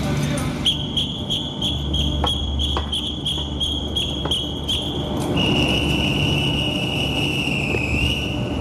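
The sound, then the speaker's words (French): A train conductor's departure whistle for a night train to Briançon sounds one long, shrill, steady blast for several seconds, pitch dipping slightly near the end, over noisy station bustle with faint voices and scattered clicks. “Je commence à siffler.”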